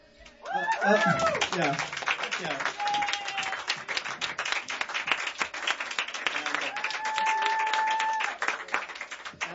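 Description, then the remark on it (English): An audience breaks into loud, sustained applause lasting about nine seconds, with a few whoops near the start and two drawn-out whistles rising above the dense clapping. “Yes, a big round of applause for him.”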